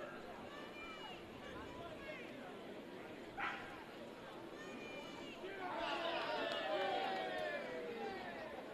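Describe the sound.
A single short bark from one of the dogs welcome at Segra Stadium ballpark rises briefly above the steady murmur of the crowd at a Fayetteville Woodpeckers baseball game on a Wednesday, with indistinct chatter and a swelling wash of voices continuing around it.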